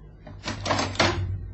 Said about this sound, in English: Open the door.